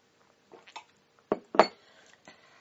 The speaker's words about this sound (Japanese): いや、とりあえず乾杯しときますか。 えい。じゃあ、 乾杯。 乾杯！イェイ！ イェイ。